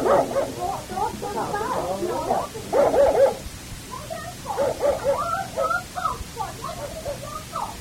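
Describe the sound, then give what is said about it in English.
A dog barks and yips repeatedly in short, uneven bursts, with some whimpering sounds mixed in and people talking underneath. “All the time so nervous for the dog bark, Ma.”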